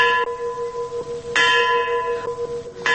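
A large memorial bell tolls several times in slow succession at night in Kyiv, at the memorial mound to the heroes of Chernobyl, marking the 27th anniversary of the disaster. Each strike rings out with long, humming overtones that overlap the next. The tolling is loud and resonant, with no voices present.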